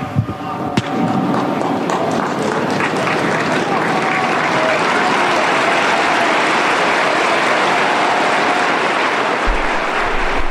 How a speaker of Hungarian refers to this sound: Ismét a megszokott tapsviharral köszönik meg a Szent Péter téren levő zarándokok Ferenc pápa áldását és az ő szavait.